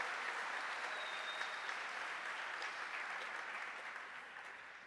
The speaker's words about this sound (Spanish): De un fuerte aplauso al Señor. Gloria a Dios.